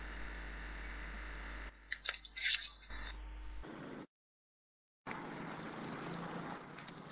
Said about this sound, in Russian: Даже не мешает проезжающей машине, даже не мешает трактор какой-то там где-то вдали на пригорке.